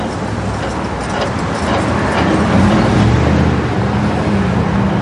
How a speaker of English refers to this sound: And how do you know when to cross? I just listen. I'll be listening to the traffic to my left.